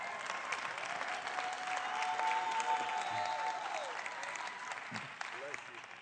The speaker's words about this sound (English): Hallelujah. Hallelujah. Give him a bigger hand clap.